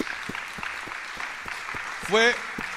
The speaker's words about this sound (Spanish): Queremos realmente agradecer al grupo de casi 35, 40 personas que estuvieron el día de ayer ayudando. Un fuerte aplauso.